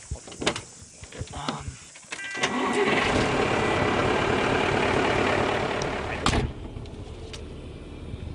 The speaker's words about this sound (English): We'll start the truck up and, we'll go and do a job.